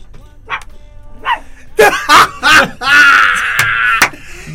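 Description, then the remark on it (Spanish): A person imitates a dog barking, loud: a few soft yips, then three sharp barks in quick succession, a longer drawn-out bark, and one final short yelp. “No, así no ladra mi perro.”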